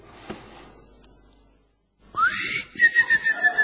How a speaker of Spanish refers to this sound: Es un silbar como de boyero. Sí. Es un grillo. Un grillo es. ¿Pero por dónde le suena? Adentro de la oreja. Acá, lo escuché.